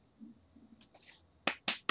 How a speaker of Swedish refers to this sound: Han får en applåd, hör jag.